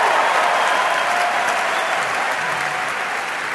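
A crowd of people claps steadily, a dense wash of applause that holds at an even, fairly loud level for several seconds with no voices standing out.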